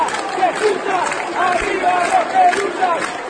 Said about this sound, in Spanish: ¿Lo recuerdan? Esos son los aplausos con los que se despidió el diputado Daniel Placeres el 6 de mayo pasado, cuando renunció a su banca en la Cámara de Diputados tras su pedido de procesamiento por haber favorecido indebidamente a Envidrio